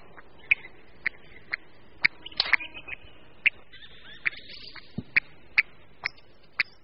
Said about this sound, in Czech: Vyrušíme-li sedícího lelka, odlétá a varuje krátkými zvuky.